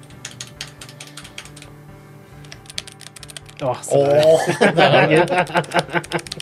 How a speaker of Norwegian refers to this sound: Som er det tyngste tastaturet jeg har kjent på noen gang. Skal du holde opp foran deg da? Få litt ASMR-tastetrykking i mikrofonen. Ja, tastetrykk på noen av de funksjonsknappene.